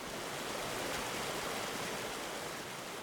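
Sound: creek water flowing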